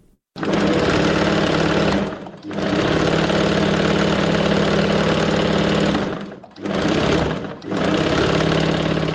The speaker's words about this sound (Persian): صدای ماشین خیاطی